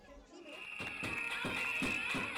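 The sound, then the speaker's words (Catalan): Protest whistles shrill steadily over a crowd of teachers, students and families of Escola Sant Feliu while saucepans are banged in a steady, repeated rhythm, loud, with voices mixed into the din, at the door of the Department of Education headquarters in Barcelona. “Els xiulets i el so de les caceroles es van sentir ben fort a la porta de la seu del Departament d'Educació a Barcelona.”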